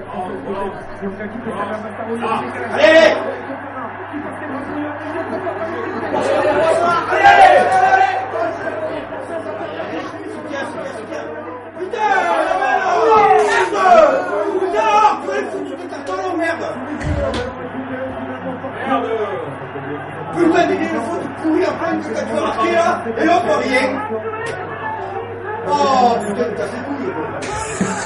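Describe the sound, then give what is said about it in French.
A dense crowd of rugby supporters in a pub shouting and chattering over one another, the din swelling in several loud bursts of cheering at an English try at the start of the second half, with scattered laughter and no single voice standing out. “Est-ce que tu peux me situer à quelle action correspondent ces cris-là?”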